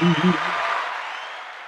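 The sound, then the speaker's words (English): A short burst of clapping applause, a dense crackle that starts strong and gradually tapers off over under two seconds, with a brief voice sounding at the very start. “Oh, you got an applause.”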